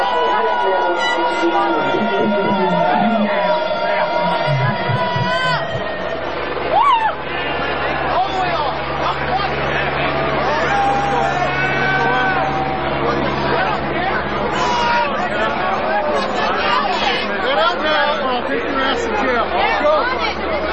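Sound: crowd chatter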